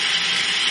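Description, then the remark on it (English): A loud, steady mechanical whir of a prototype tabulating machine's drums spinning at 1800 RPM, a dense hiss-like drone that holds constant throughout the short moment with no voices. “These tabulating drums rotate at 1800 RPM.”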